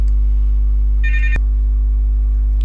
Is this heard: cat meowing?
no